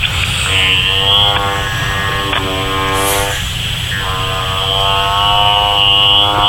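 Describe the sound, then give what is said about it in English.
A seven-year-old vibrator held to a phone during a call buzzes loudly in a steady, droning motor hum, its pitch shifting slightly between a few sustained stretches, with a short dip in the middle and no talking. “Maybe we should make a little vibration sound into the phone.”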